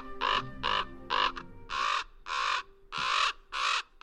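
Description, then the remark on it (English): Common ravens give a rapid series of loud, harsh croaking calls from the branches of scraggly pines, about eight rough bursts in uneven rhythm, like birds squabbling. No one speaks. “Common ravens call and squabble from the branches of scraggly pines.”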